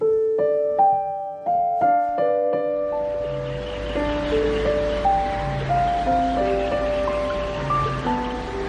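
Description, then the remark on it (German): Soft melodic notes open alone, then a steady wash of wind and lapping water fades in at the reedy shore of Lake Neusiedl, a very shallow lake in Austria, where the reeds bend in the wind, and continues beneath the gentle music to the end, with no voices. “Am Ufer des Neusiedlersees biegt sich das Schilf im Wind.”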